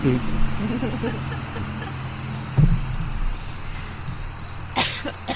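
A car passing by: its engine hums low and steady with a faint high whine over it, joined by a brief cough-like burst and a sharp noisy rush near the end.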